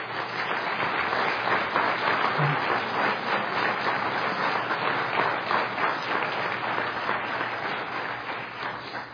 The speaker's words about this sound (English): In fact, let's just give everyone a round of applause.